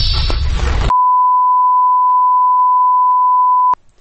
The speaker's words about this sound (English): Last time you're going to hear that beeping.